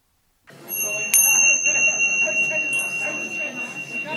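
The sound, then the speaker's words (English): A closing bell rings with a steady, sustained high tone and one sharp strike partway through, sounding over the loud, continuous chatter of many participants talking during an animated open question exchange. “Here to give you a sense of how animated the open question exchange became is the closing bell”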